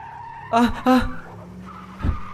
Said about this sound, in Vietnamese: Bác Tài phanh gấp đến nỗi tạo một vệt đen trên đường chạy.